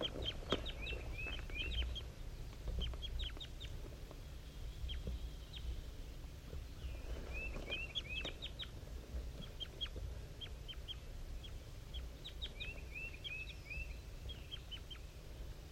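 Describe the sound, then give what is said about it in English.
Soft, weak, high calls of a wild bird in the top of a dead pine at 7:50 a.m. come in short clusters of quick chirps and notes, repeating every few seconds over a low, steady background rumble. No voices. “Very weak, soft calls coming from the wild bird.”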